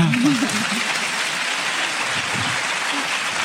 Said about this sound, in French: Il y en a qui ont très envie d'applaudir